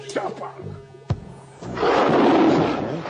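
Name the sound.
tiger roaring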